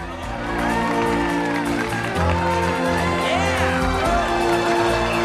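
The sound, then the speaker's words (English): A festive wedding crowd cheers and murmurs steadily as the couple walk through a shower of pink and white petals, under loud, swelling orchestral music, the celebratory noise sustained throughout without a break. “Viola struggles through the crowd to get a glimpse of the couple, then she watches as Kevin strokes Charlie's face.”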